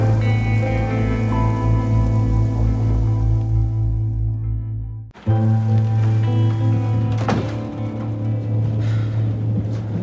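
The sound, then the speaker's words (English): Steady, heavy rain falls continuously with a dense hiss, layered over a low droning hum, briefly cutting out midway before resuming at the same even, fairly loud level. No one speaks. “The road's slick with all this rain.”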